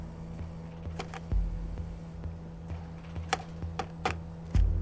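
Irregular clicks and taps of keys being pressed on the keyboard of a small Z80-based home computer, about 9 by 7 inches, moderately loud, with a steady low hum underneath and a couple of heavier thumps.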